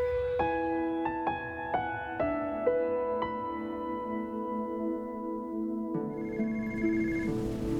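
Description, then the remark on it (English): A telephone rings with a quick series of bright, bell-like tones that linger and overlap, then a fresh ring starts near the end. It sounds clear, with no voices. “phone's for you.”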